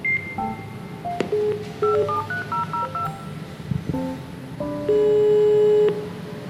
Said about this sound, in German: Den habe ich erstmal ganz modern per Code an der Tür angeklingelt.